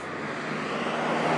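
Fast cars roar past at a port, among them many convertibles and high-end cars: a loud, broad rushing engine and road noise that swells steadily over a second and a half, with a low steady hum underneath and no voices.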